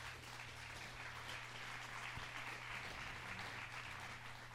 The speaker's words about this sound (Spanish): La iglesia dice. The church says. Amén. Dele ese aplauso a Cristo Jesús.